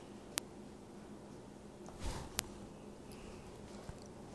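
An animal chews on a treat, making a few sparse, sharp crunchy clicks and a brief soft squishy burst against a quiet background. No one speaks.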